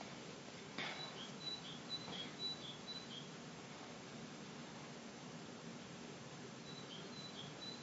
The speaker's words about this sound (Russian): Птички подпевать начали.